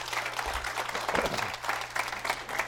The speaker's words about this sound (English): And I think it's probably appropriate at this time, so everybody kind of feels welcome. Give all this team a good round of applause and welcome to Harrisburg Community Church.